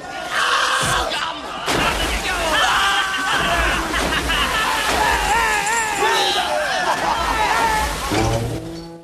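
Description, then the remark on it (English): Heavy splashes as men are kicked overboard from a ship into the water, with a crowd of men shouting and yelling loudly throughout, the commotion sloshing and churning. “Juba flounders and the rest of his men are kicked overboard.”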